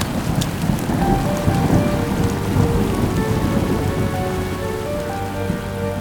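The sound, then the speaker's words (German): Heavy rain pours down steadily, a dense, constant hiss of drops, with low rumbling underneath suggesting thunder. No voices are present. “Wie lange sie durch den schier unerschöpflichen Regenguss über den nachgiebigen Boden, der gierig an ihren Schuhen saugte, gewandert oder besser gesagt gewartet waren, hätte keiner von ihnen später zu sagen gewusst.”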